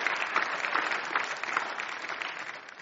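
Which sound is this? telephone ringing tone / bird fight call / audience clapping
audience clapping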